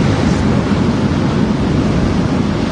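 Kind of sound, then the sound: nature, storm waves and wind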